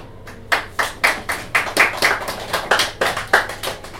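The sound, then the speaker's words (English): Steady, evenly paced hand claps, about fourteen distinct sharp claps over a few seconds, clear, a small audience applauding after a poem reading, with no one talking. “So you can clap for any of the other ones, so that means you want me to finish now, or you only like that one, or it's all right.”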